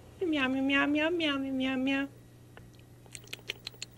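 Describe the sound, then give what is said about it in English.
A human voice imitates a cat, giving a quick, fairly loud run of about five connected meows, followed by a few soft clicking, smacking sounds like chewing. “Meow, meow, meow, meow, meow, meow, meow.”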